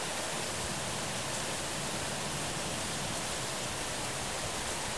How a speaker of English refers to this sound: It always seems like the best storms come in the middle of the night.